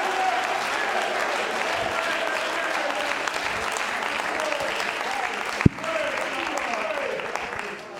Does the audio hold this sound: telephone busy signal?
no